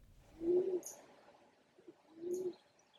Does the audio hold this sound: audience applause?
no